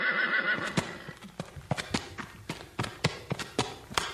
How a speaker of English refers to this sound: Come along, horse. Off we ride.